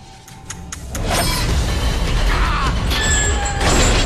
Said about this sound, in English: The door swings shut.